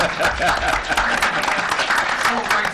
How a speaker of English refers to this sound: That's applause. Yeah, that is applause.